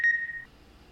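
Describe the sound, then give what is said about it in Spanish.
A single clear electronic beep signaling the listener to repeat a sentence in a Spanish practice exercise, a steady high tone lasting about half a second, sounds alone and then cuts off into quiet. “Como siempre, vas a escuchar las oraciones y repetir después del bip.”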